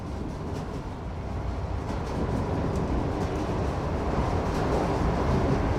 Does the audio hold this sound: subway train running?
yes